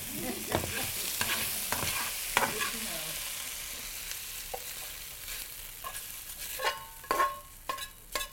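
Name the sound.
chicken stir-frying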